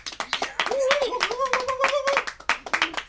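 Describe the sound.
A short burst of farewell applause from the community: scattered, irregular hand claps from a small group, with a voice talking over the middle stretch before the clapping carries on alone.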